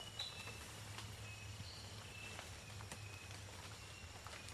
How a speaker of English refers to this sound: You hear that noise in the background? It's a nightingale wren. wrens have a lot of different calls, so sometimes it's very difficult to identify the species because they all sound very similar and they have very large repertories.